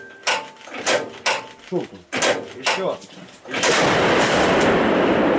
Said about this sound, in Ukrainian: Постріл!